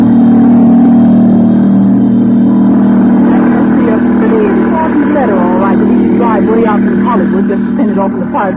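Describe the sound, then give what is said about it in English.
The 5:30 plane for New York takes off at the airport in Burbank with a loud, steady engine roar that drones throughout, a low humming rumble that holds level while voices begin talking over it partway through. “As the 5:30 plane takes off for New York, in the crowd are two girls.”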